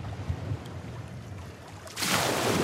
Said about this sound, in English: What is that? Or is that a wave? That's a wave. It's so nice. Is that a wave? It's probably a wave. All right. So that's what it sounds like. It is not peaceful at all. It is not relaxing like that.